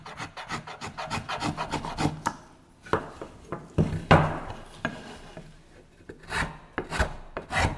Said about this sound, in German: Er hatte ein rohes Stück Holz, wo er daraus an diesem Abend angefangen hat, einen Schneck für das Cello bauen. Also sagen, bohren, schnitzen.